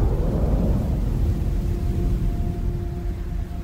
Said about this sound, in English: But with a sound like a clap of thunder, an eastern wind had come roaring across the barren tundra and whipped up days of drift into great white clouds like smoke from a frozen fire.